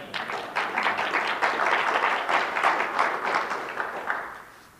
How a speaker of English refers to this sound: Some of you haven't clapped to one thing I've said today. And that's okay. Thank God for those of you that are clapping. The people online enjoy hearing you appreciate the Word of God as it's being taught.